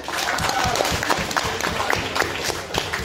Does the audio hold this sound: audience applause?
yes